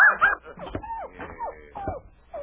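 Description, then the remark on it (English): A small, funny-looking dog named Schnitzel yaps as it follows a man, in quick, high-pitched bursts, about five sharp yips with slightly whiny edges, steady in rhythm with no voices. “This funny-looking animal, he keep following me and barking all the time.”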